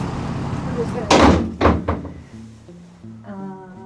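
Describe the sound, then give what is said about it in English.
A heavy metal side door of a jail, not the main entrance, clunks open, with a loud latch thud followed by two quicker knocks of the door swinging, then a voice murmurs faintly as the room noise settles. “walks to this side door of the jail, like definitely not the main entrance, and she just opens it.”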